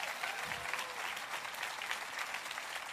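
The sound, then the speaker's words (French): A crowd claps steadily to celebrate La Chapelle, the largest French-speaking church in Montréal: a dense, continuous patter of many hands at even loudness throughout, with a brief low murmur of a voice early on. “Et nous disons, ce matin, nous célébrons, vous voulez applaudir, nous applaudissons, nous célébrons la chapelle.”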